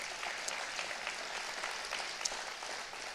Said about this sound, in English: yeah, come on, give the Lord a big round of applause.